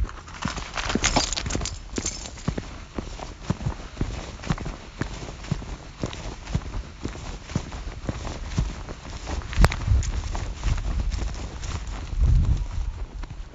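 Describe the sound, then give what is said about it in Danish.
Steady footsteps crunch outdoors at night in pitch darkness as someone walks around searching for an owl, a long run of firm, regular steps with some low rumbling and scuffing between them, and no voices. “Jeg tror, jeg vil bevæge mig lidt rundt her.”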